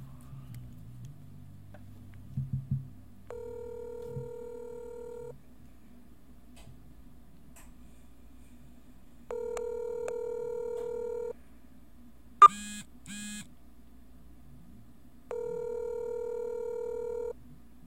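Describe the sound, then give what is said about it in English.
A phone line rings back three times, each long two-tone ring separated by silence, after a brief burst of dialing tones at the start and a short click-like blip midway. “Gonna give him a ring-a-ding-ding. Better answer your goddamn phone.”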